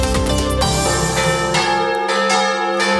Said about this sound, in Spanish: Es el sonido de las campanas que escuchamos en algunas ocasiones, pero lo difícil es poder subir a un campanario y ver de primera mano cómo se realiza ese repique, que puede ser manual o automático.